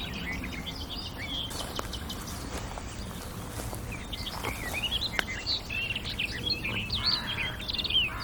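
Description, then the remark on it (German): Crows calling outdoors, a scatter of short, fairly faint calls that grow busier toward the end, over a steady background of wind and ambient noise; the crows are breeding somewhere nearby and raising many alarms as nest robbers. “Das sind unsere verrückten Krähen, die hier ein neuer Ding ist.”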